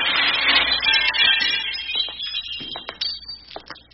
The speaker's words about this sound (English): Oh, no. Now look what you've done. You've broken the window.